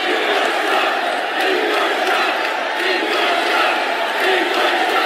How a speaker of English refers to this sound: the reaction in the Quicken Loans Arena here in Cleveland last night was an odd mixture of applause, boos, and 14 chants of endorse Trump